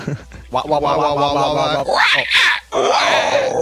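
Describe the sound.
A person loudly imitates a wild elephant call, a drawn-out, strained vocal bellow that rises into a harsh, trumpeting squeal, with no other talking.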